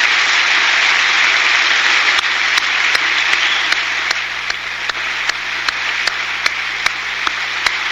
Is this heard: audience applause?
yes